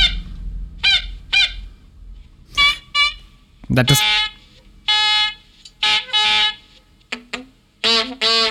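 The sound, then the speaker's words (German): A warning siren test tone sounds in a series of short, squawking bursts that sound almost like a honking bird, repeated irregularly, with a brief spoken word in between. “Also, das klingt ja fast wie ein Vogel.”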